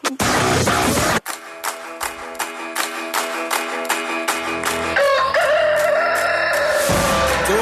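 A loud rooster crow rises and stretches out near the end, following a rush of noisy static and a steady pulsing, tonal backdrop. No one speaks.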